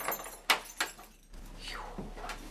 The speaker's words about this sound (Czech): Divák dostane svazek klíčů a těma klíčema si může odemykat jednotlivý objekty.